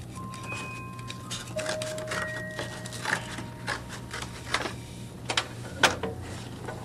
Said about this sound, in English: You know, it's not too easy to use a hole puncher. You have to punch pretty hard.